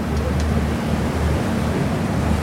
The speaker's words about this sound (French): Ouais, le moteur il est quand même puissant. Là on peut se mettre à deux. Ah oui, c'est vrai que pour la prise de son c'est pas... Oui, après voilà. Moi, ouais, il y a le moteur ensuite qui rentre en parasite.